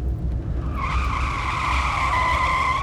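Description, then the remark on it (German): Tires screech in a long, steady skid as two large trucks, one a tanker, collide at an intersection ahead, a high squealing whine with two bright tones over a heavy, rumbling engine drone. No voices, and the skid keeps going to the end. “Ich glaube, die beiden großen Laster sind zusammengestoßen.”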